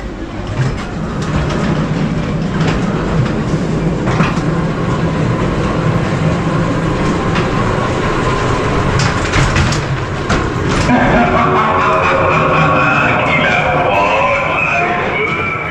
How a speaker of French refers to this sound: Il monta dans le train fantôme et...